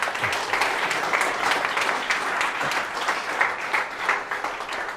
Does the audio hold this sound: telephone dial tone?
no